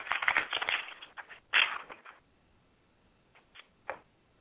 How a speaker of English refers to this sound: I'm shuffling, and I'm putting the deck in three piles.